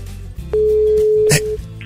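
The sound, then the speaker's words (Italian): A single steady, strange-sounding telephone ringing tone over the line, one loud even beep lasting about a second, with a short click or knock near its end and no talking. “speriamo, sì però squilla strano, pronto?”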